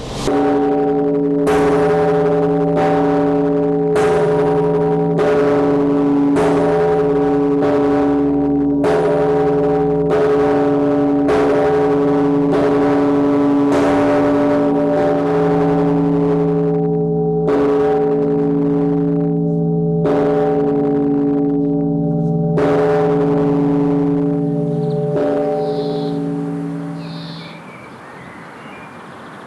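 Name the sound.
large church bells ringing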